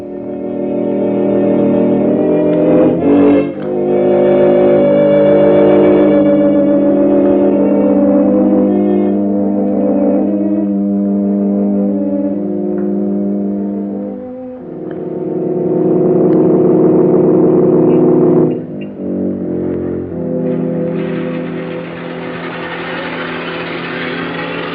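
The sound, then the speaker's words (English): A car engine hums and revs steadily, its droning tone shifting in pitch a few times before it grows rougher and louder as a driver brings the car up for its owner in the evening. No one speaks. “Your car, sir.”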